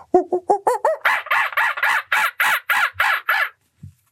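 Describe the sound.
A young girl imitates a monkey, her first word, with about a dozen quick rhythmic calls, starting as lower tonal hoots and rising into loud, harsher cries, then stopping abruptly before a faint short sound.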